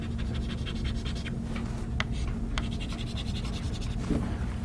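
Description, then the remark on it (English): Scratchy strokes of writing on a board, a series of short rasping marks with a couple of sharper taps, over a steady low hum, with no voices. “Okay, so now I'm gonna write down two, and it's going to sound complicated, and then we'll find a really easy way to do it.”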